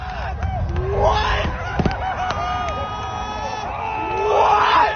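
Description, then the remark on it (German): A large crowd erupts in sustained cheering as SpaceX's Starship Super Heavy booster, about 70 meters tall, is caught by the catch arms at the launch pad, with overlapping shouts, screams and whoops rising and falling, swelling louder again toward the end. “Der Jubel ist bezeichnend für das sogenannte New Space.”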